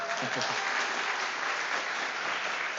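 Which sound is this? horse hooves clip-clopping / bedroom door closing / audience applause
audience applause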